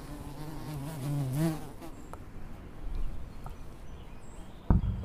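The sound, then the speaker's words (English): A bumblebee buzzes, its low drone wavering in pitch as it swoops, with a few faint taps and a sharper thump near the end as it smacks its head against an awning. “And look at this bumblebee. It's just kind of smacking its head against the awning.”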